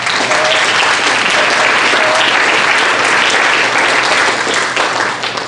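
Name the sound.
audience clapping hands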